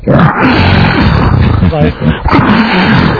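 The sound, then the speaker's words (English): A tiger roars loudly, a rough, rumbling growl that carries on for about three seconds with a brief dip partway through before surging again. “Check out the tiger, like, laying down, looking like he's sleeping, while we're hearing”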